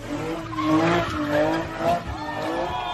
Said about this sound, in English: So here there's a street racing car who does some smoke and then he hits another car.